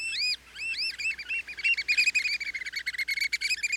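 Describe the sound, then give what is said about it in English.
American oystercatcher calls: loud, piercing whistled notes, first a few arching repeated peeps, then speeding into a rapid, rhythmic piping series with no voices present. “That is an American oyster catcher.”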